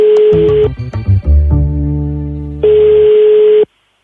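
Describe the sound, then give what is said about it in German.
A phone line rings as a call goes out to Nikolaus Scherak, deputy club chief of NEOS: a steady, buzzy ringback tone sounds twice, loud, with a brief jumble of other electronic tones between the two rings. No one speaks. “hat dazu den stellvertretenden Clubchef der NEOS, Nikolaus Scherak, angerufen und gefragt, warum er jetzt in Sachen Corona-Strafen eine Generalamnestie gefordert hat.”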